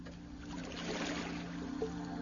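Gentle water sloshing and trickling as oars row a small boat across a calm, shallow sea, with one soft swell of splashing midway over a steady low hum; no voices.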